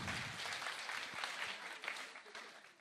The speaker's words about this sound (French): C'est la génération Z. Oui, on peut les applaudir, hein, on peut les applaudir, bien sûr.